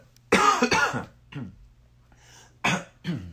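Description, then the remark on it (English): A person coughs several times in two rough clusters: a loud, harsh double cough followed by a weaker one, a brief pause, then two more strong coughs. A low steady hum runs underneath. “You guys are probably going to hear my coughs and stuff.”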